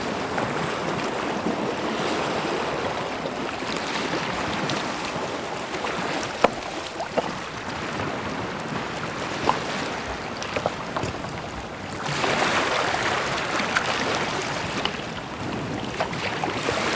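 Waves wash and drag back over a shore of jagged rocks and pebbles in a steady rush of hiss and churn, swelling louder toward the end, with small clicks of stones and no voices.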